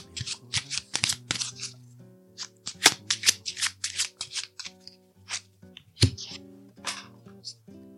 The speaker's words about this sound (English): Yeah, okay, so let's shuffle these cards. What do we need to affirm today?